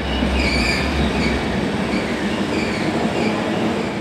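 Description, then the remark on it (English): A train rolls steadily along the rails with a continuous, loud rumble, faint high-pitched wheel squeals drifting over the low roar throughout; no one speaks. “The brothers' future will be decided on this train.”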